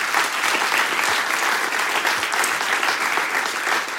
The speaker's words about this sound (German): Und das unterstützen wir mit einem großen Applaus.